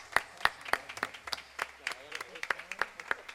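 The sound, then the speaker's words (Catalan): Sharp, evenly spaced hand claps, about three per second, from a small concert audience applauding a violinist who played on the album, with faint voices murmuring underneath. “Un aplaudiment per a ella.”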